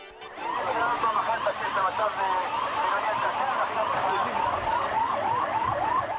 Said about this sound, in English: Ambulances rushed to the scene of a suicide bombing today in the port city of Haifa, Israel, where a woman walked into a crowded restaurant and blew herself up.